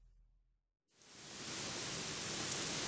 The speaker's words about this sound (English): Wow, look, it's raining cats and dogs again. I hate this weather.